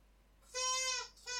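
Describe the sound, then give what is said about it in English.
A dog squeaks her squeaky toy: a long, loud, high-pitched squeal, then a second squeak begins right after a short pause and is cut off. No one speaks. “My dog is squeaking her toy, if you hear a squeaking sound.”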